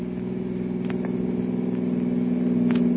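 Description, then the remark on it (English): A car engine drones steadily, its pitch and loudness climbing gradually as it accelerates at speed with the accelerator pressed to the floor, with a few faint rattles and clicks over the continuous hum. “Can't you get any more speed out of this car, Kolo?”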